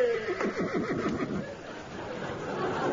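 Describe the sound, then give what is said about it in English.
A horse lets out one loud whinny, a shrill quavering neigh that wavers downward for about a second before trailing off into steady background noise. “The horse got thrown in for nothing.”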